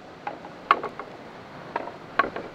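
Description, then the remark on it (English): Sparse mechanical clicks and clocks from the TikTok Walk sound installation, part of the Exploratorium's Sound Commons at UN Plaza, sound at uneven intervals, some sharper and brighter, others duller, over a faint steady hiss, like many small devices ticking out of step. No talking. “They constantly just go click, click, clock, click, click, clock.”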